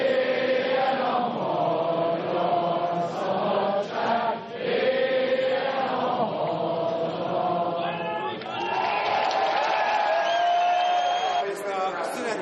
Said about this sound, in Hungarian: A tömeg ezután elénekelte a himnuszt, majd a Kossuth nótát is.